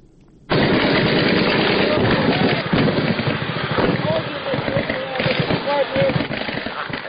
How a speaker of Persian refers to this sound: صدای شلیک سلاح های سبک و سنگین در جنگ شب و روز در اطراف و داخل شهر شنیده می شود.